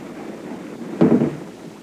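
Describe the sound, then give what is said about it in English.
Heavy rain pours off a roof in a steady, dense hiss, swelling briefly into a louder rumbling gush midway before settling back to a constant downpour. No voices are present. “The rain's pouring off your roof. It's like standing under a waterfall.”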